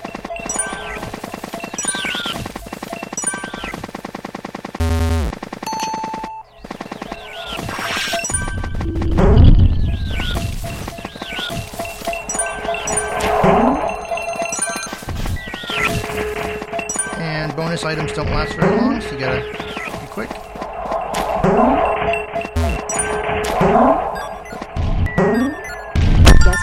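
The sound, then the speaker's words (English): Booming video game cannon blasts punch through a busy game soundtrack of music and effects, with a couple of heavy low thuds standing out amid clanging, crashing hits. “I mean, standing right in front of a cannon and letting yourself be blasted upside the head.”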